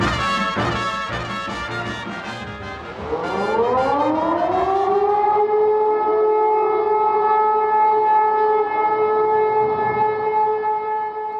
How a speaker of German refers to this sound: Warum hört diese Sirene nicht auf zu heulen?